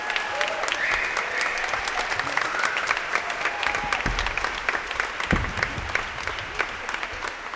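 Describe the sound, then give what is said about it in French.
An audience applauds the musicians, clapping steadily for several seconds, a dense, even patter of many hands, with a few faint voices and cheers mixed in. “On pourrait applaudir un peu les musiciens, non, quand même.”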